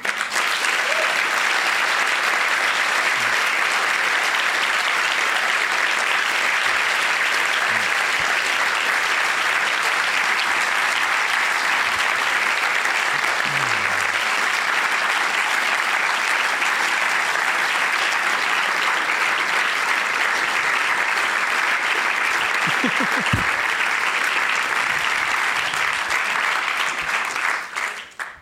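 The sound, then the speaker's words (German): Sustained audience applause at the end of an on-stage interview, a dense wash of many hands clapping at steady loudness for nearly half a minute before tapering off at the very end. “Nicht so lange klatschen, sonst bin ich in 5 Jahren schon wieder da.”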